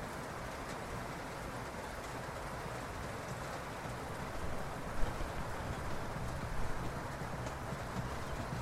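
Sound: rain falling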